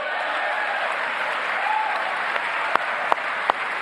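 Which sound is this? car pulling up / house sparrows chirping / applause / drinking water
applause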